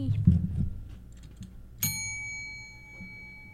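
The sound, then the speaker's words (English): A single bright bell ding strikes about halfway through and rings out with a long, clear shimmering decay, following a few soft low murmurs and bumps. “Hello again, Joke Bell.”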